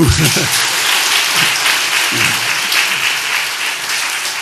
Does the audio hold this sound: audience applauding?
yes